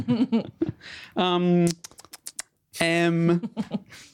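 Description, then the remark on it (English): Rapid clicking of typing on a computer keyboard as someone types a list, a short burst of distinct keystrokes set between drawn-out vocal sounds from a voice. “Wait, what are you typing in here”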